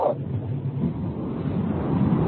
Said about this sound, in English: It's windy wherever he is, it sounds like. There's a lot of heavy breathing and there's a wind tunnel.